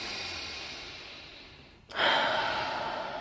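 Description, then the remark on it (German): A slow, deep breath: a long airy exhale fades away, then after a brief pause a strong, rushing breath starts abruptly and holds steady. No one speaks. “Und dann atmest du ein bisschen und das ist wie so ein Mantra und tatsächlich, das holt einen runter.”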